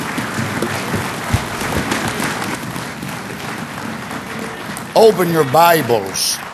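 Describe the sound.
A room full of people applauds in a dense, steady wash of clapping for about five seconds, then a man starts speaking loudly over the fading applause.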